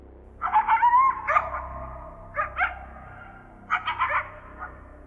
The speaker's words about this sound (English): I must have drifted off because the next thing I remember was being woken up by a high-pitched, yelping kind of sound. I was groggy at first, and it took me a moment to fully wake up. The yelping was insistent. It kind of sounded like a coyote.